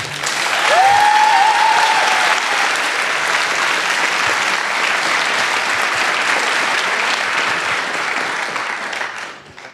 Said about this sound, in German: Und nochmal bitte einen kräftigen Applaus für Mentorin Paula.